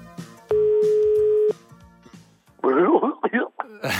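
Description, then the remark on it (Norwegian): A single steady one-second ringback tone sounds on an outgoing phone call, loud and clear, then a voice answers and starts talking. “Jeg ringte til en annen høyreist fyr,”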